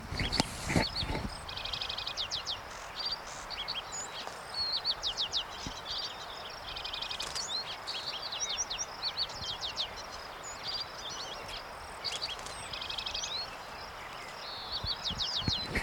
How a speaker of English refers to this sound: That, of course, is a lark sparrow in the background, in the near background.